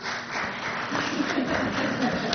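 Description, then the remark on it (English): A steady wash of audience applause, dense and continuous, with many hands clapping together at a moderate, even level throughout. “Yeah, they didn't hear about the applause out there.”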